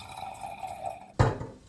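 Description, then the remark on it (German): A drink is poured into a glass, a steady, resonant trickle for about a second, then a sudden louder splash or clink near the end. No voices. “Würden Sie mir bitte einschenken?”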